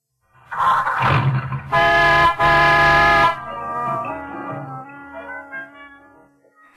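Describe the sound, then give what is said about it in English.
An engine cranks and turns over in a car with an Autolite electrical system, then the car horn sounds two loud, sustained blasts with a brief break between them, followed by quieter tonal sound like the car radio playing. “I'm showing you how the Autolite electrical system in your Autolite-equipped car provides the power for starting the engine, sounding the horn, and playing the radio.”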